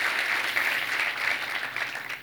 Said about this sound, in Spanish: ¿Tú crees eso? Dale un aplauso a Dios fuerte. Qué bueno, qué bueno.